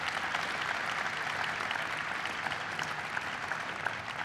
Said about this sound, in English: First of all, I think that by the end of his tenure, we're going to know that Ken Salazar is one of the finest Secretaries of Interior we've ever had. So please give him a big round of applause.